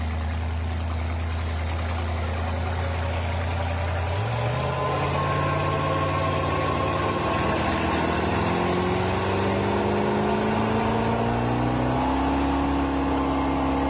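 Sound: engine running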